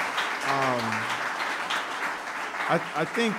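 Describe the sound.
Steady audience applause fills the whole clip, a dense crackle of clapping that holds at an even loudness, with a couple of brief voices calling out over it.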